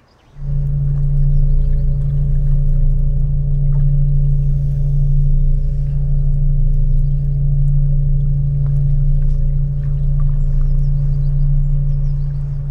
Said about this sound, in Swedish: Man kanske har en hel vindkraftpark och de låter ju också. Vi tar och lyssnar på hur det låter när man är i vattnet, så låter en vindkraftpark så här.